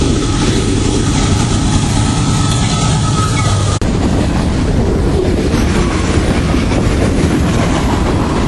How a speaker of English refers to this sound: Got a train coming. Got a train coming. I'll get drowned out.